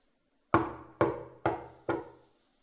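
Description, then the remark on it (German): A man knocks four times on a door at the top of a flight of stairs: firm knocks in a steady, slightly quickening rhythm, each a sharp wooden thud with a short resonant decay, followed by silence. No one speaks. “Oben angekommen, nimmt er nochmal alle Kräfte zusammen, er geht zur Tür und er klopft an.”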